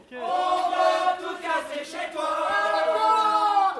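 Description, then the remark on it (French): A large crowd of citizens from across Paris, gathered outdoors to bring down a column, shouting and chanting together, many voices merging into a loud, sustained roar that swells and dips slightly but keeps going throughout. “La garde internationale est là, les Versaillais sont aux portes, mais malgré tout, la foule est présente et elle est passionnée, elle va faire tomber cette colonne.”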